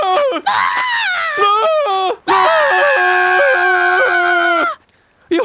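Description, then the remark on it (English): Loud, sustained screaming from two voices, a person and a talking camel: one long shrill burst, a brief break, then a second held scream that wavers in pitch before cutting off. “Why are we screaming?”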